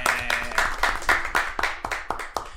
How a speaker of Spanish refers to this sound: Nada más, eso, un aplauso para ellos.